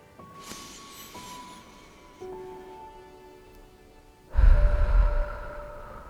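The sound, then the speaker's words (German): A deep breathing cycle in a guided breathing exercise: a long, quiet inhalation through the nose into the lower belly, then a loud, breathy exhalation through the mouth, over a soft sustained tonal background. “Und einfach tief durch die Nase einatmen und durch den Mund aus.”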